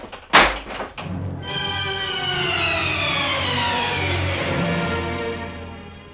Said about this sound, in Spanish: Y se marchó echando chispas, dando un portazo.